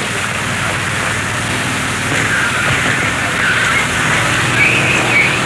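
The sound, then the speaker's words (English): A large army helicopter roars steadily overhead as it flies over the wall into a prison, its rotor blades producing a rapid low thudding beneath a broad engine rush that grows slightly louder toward the end. “One of the large army helicopters now going overhead and over the wall into the prison.”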